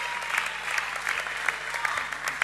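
A crowd applauds steadily at a live music show, dense clapping from many hands filling the space at moderate volume without pause for the full few seconds.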